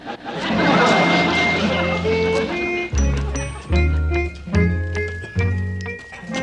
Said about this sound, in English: Oh, what an engine. Mr. Douglas, I'd appreciate it if you wouldn't get no finger marks on it.